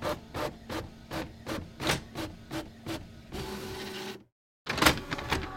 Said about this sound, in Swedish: Först så ska ni få höra hur en Triceratops låter. Visst lät det nästan som en kyckling.